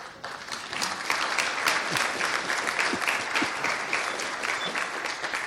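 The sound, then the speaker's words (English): An audience applauds volunteers, clapping steadily for several seconds, a dense, even patter of many hands with no voices over it, holding at a moderate level throughout. “Carl and Fabian can stand up and get a round of applause.”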